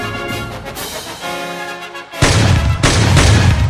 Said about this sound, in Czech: Ale už za půl minuty, ve 12:30, se ozvaly tři výstřely, které údajně vypálil Lee Harvey Oswald.